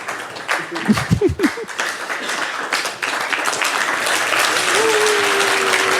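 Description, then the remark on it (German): Sustained crowd applause from a large audience practising their applause before a talk, dense and steady throughout, with a few brief voiced sounds near the start and a faint whistle-like tone later on. “Das ist dann euer Applaus.”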